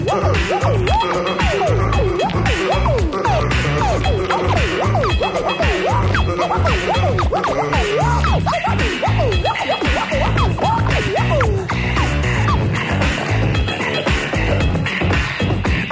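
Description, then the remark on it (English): Beatbox vocal percussion by a male performer: a loud, steady stream of rhythmic beats layered with repeated swooping, siren-like vocal whoops and scratch-like sounds, continuing for the whole stretch with no talking. “Just listen to the beatbox. He will play.”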